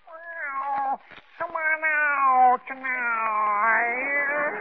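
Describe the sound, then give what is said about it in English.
A person imitates a lovesick cat sitting on a fence serenading its mate, with long, drawn-out wailing meows, three sustained cries with brief breaks between them, loud. “Didn't you ever hear a lovesick cat sitting on a fence serenading his mate like this?”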